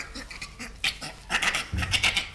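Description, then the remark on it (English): A recording of a bonobo laughing: a rapid run of breathy, panting bursts with sharp, clicky high edges, uneven in rhythm and growing louder toward the end, with no talking over it. “let's listen to the bonobo.”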